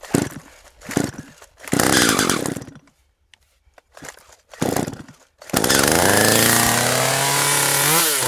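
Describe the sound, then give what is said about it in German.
A chainsaw freshly filled with petrol and oil revs in several loud bursts, drops briefly quiet, then bites into a huge oak trunk with a sustained, roaring cut that shifts in pitch as it works through the wood, worked by a woman standing on a scaffold beside the trunk. “Mit der frisch befüllten Kettensäge steigt die zierliche kleine Frau auf ein Gerüst neben einem riesigen Eichenstamm und legt los.”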